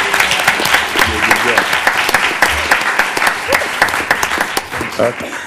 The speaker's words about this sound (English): I think we can clap it up a little better for her for that. She did an amazing job.